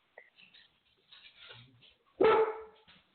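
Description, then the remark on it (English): A single loud, sharp bark from one of a household's new pet dogs bursts out after a stretch of faint, murmuring sounds, then trails off quickly. “Why are you guys barking?”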